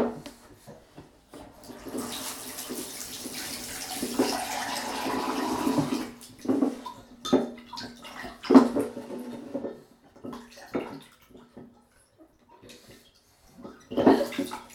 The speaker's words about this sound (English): Let's fill the jug up again.